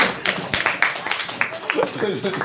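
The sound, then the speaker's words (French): A group applauds with quick, uneven bursts of clapping that stay fairly loud throughout, while voices murmur underneath toward the end. “Ok, on arrête là. On peut l'applaudir.”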